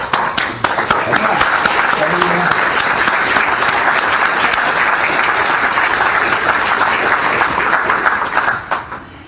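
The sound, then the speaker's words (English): A crowd applauds steadily for about nine seconds, a dense, loud wash of many hands clapping that holds even throughout and then tapers off quickly at the end. “And I want to applaud you.”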